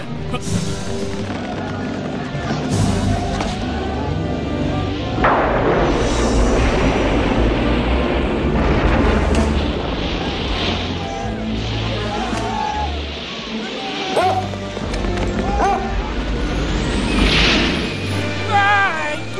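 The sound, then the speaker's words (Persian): A loud, raging storm: a dense, unbroken roar of wind and rumble, punctuated by heavy booming crashes and sharp bangs that keep surging throughout. “عجب توپانه گرفت.”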